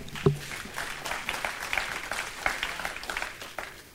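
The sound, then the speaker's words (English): Thin, scattered applause from a small audience, a light patter of claps that stays fairly quiet and even throughout, opening with one sharper clap. “Аплодисменты были слабые. Applauding was a little bit of weak.”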